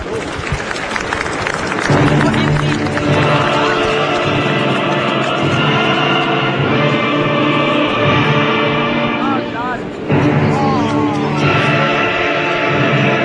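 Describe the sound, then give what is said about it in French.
A crowd at a livestock show breaks into loud, sustained applause for a prize animal. The applause swells after a couple of seconds and carries on steadily, with a brief dip near the end, voices and cheers mixed into the clapping. “Je vous demande tous de l'applaudir.”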